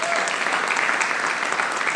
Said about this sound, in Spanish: Una vez más, iglesia, vamos a darle un fuerte aplauso a ellos.